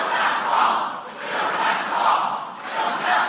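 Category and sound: crowd, crowd chanting a slogan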